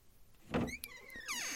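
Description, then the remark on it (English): A door is pulled shut: a soft thump followed by squeaky, sliding, slightly creaking tones that rise and fall before settling, all within a second or two. “Let me just close the door. There we go.”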